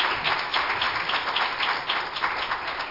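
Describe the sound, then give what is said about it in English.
An audience claps hands in praise of the Lord, a dense, steady patter of many hands at moderate loudness for the full few seconds, with no voices. “Give the Lord one more hand clap of praise, if you would.”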